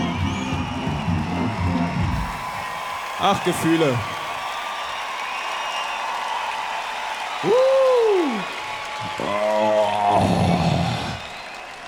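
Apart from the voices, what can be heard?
audience applause and cheering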